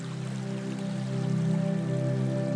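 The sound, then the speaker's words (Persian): A steady, even rush of flowing water from a stream running by a tree-filled villa, with a low sustained hum underneath and no voices. “حتی اینجا نهر آبی جریان داره.”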